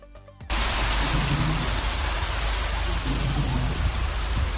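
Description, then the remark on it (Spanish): Heavy rain pours down in Melilla, flooding the town centre, in a dense, steady roar that stays loud and even throughout, just after a brief voice cuts off at the very start. “sigue lloviendo, y lo sigue haciendo además con mucha fuerza en varias zonas de la península”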